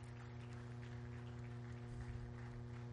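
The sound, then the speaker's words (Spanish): A church audience applauds the Lord during a morning service with steady, dense clapping that fills the whole clip, while sustained low keyboard-like tones hum underneath. No one speaks. “Denle al Señor un aplauso esta mañana.”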